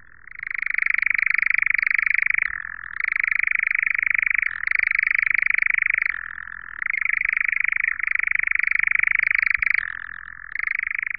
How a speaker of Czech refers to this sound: Tyto brčivé zvuky vydává samec lelka lesního, ptačího druhu, který je opředen určitým tajemstvím.